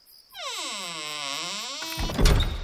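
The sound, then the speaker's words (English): A long, groaning hinge creak bends low and rises again as the heavy door of a manor swings, ending in a deep, booming thud as it slams shut, with no voices. “The heavy door swung closed, sealing me in.”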